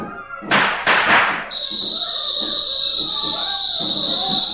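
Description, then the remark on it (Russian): Two loud gunshots crack in quick succession, each a harsh burst, followed by a steady, shrill high-pitched whistle that holds for several seconds over a low murmur. “Кто свистел? Кто стрелял? Кто здесь?”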